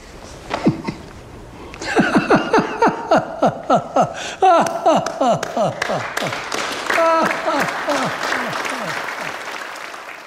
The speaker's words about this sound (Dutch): Wanneer ze klaar zijn met zingen, is het eventjes stil. Dan begint de paus te lachen en hij klapt.